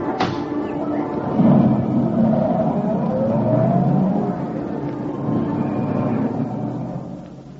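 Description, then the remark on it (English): A taxi cab's engine revs and pulls away on a street outside a theater, its low rumble rising and shifting in pitch before fading out, with a brief faint voice early on. “Here's your cab, Mr.”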